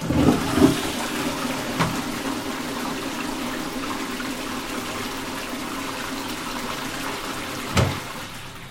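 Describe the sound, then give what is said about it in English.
A toilet in Israel flushes with a sustained rushing gush of water, then settles into the steady hiss of the tank refilling, with a couple of brief clunks near the start and end. No one speaks. “Finally, our experimental blindie flushes the toilet in Israel.”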